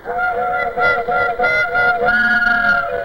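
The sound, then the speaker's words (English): A loud, sustained train whistle blares a steady multi-note chord for about three seconds, with a slight pulsing wobble and a small shift in pitch partway through. “Gee, they changed the whistle on the train just for me.”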